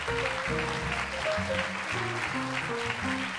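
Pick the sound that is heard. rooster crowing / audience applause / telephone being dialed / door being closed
audience applause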